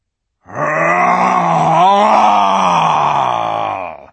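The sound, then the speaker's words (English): A loud, sustained roar voiced by a person as the lion Aslan, a single long growling cry of about three and a half seconds that wavers in pitch midway and holds steady to the end. “Roared Aslan, half rising from his throne, and his great mouth opened wider and wider, and the roar grew louder and louder”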